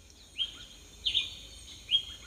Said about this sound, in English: More and more birds are starting to call and flutter high above.